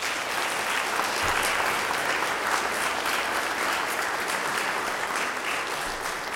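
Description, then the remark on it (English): Sustained audience applause for the veterans present, a dense, steady wash of many hands clapping at even loudness throughout, with no voices standing out. “Applause for the veterans.”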